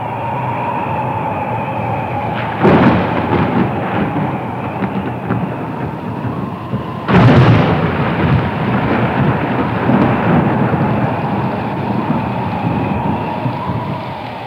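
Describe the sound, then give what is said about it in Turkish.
Heavy rain pours down steadily, with two loud rumbling thunder crashes breaking through, one around a third of the way in and a bigger one midway, followed by a lingering roar. “Görülmemiş bir yağmur. Bir tufan.”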